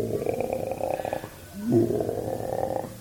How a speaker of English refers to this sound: After you get down toward the pond, a lot of frogs down there. Ribbit, ribbit, ribbit. The big old bulls.